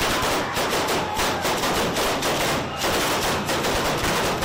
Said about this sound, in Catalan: Amb aquesta traca es donava el tret de sortida a una de les cites més esperades a Bunyola, la cursa en roba interior.